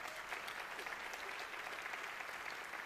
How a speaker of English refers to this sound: So I just want to give a special shout out to those moms and kids of moms who are here, and it's not your normal thing. We're super glad that you're here. And yeah, we could clap for them.